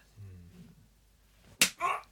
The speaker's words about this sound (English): looks like he's warming up to be slapped.